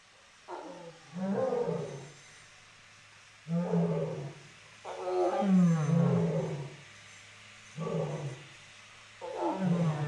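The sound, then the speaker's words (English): Big cats, lions and tigers in enclosures, roar and bark in a series of five deep, rumbling bursts with short pauses between, loud, with a low steady hum underneath and no talking; a couple of tigers bark at each other in a disagreement and lions answer with their own calls. “Yes, so we had a disagreement up front with a couple of tigers, and tigers disagree by barking at each other, and lions respond to sounds in the distance by responding with their own pride numbers.”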